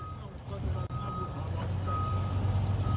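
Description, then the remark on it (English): A large bus idles on the street in the Bay with a steady low engine rumble while a reversing alarm beeps in a regular pattern, with faint voices mixed in beneath. “Hear that fucking bus in the background.”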